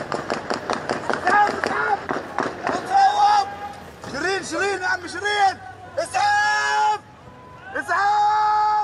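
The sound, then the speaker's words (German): A rapid burst of sharp, loud gunshots fired as a group of journalists in bulletproof vests and helmets walks along a quiet street in Jenin, followed by frantic shouting and agitated voices as people run. “Eine Gruppe Journalisten, bekleidet mit kugelsicheren Westen und Helmen, läuft plaudernd eine ruhige Straße entlang. Plötzlich fallen Schüsse.”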